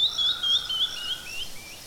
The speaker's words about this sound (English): We're on top of a mountain. Aha! Uh-huh. Do you hear that? The birds are singing.